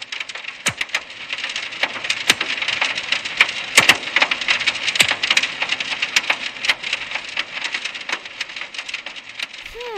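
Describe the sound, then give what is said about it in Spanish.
Dense, continuous patter of hot volcanic debris striking the ground like hail, with frequent sharp clicks and pings over a steady hissing rush, fairly loud throughout. “Aquí no tenemos mucho de eso, pero me recuerda a cuando en las noticias he visto el granizo en otros sitios de España. Solo que este no es frío, sino que quema.”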